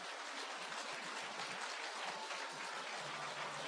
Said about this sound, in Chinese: 现在让我们以热烈掌声恭请尊敬的卢军宏台长。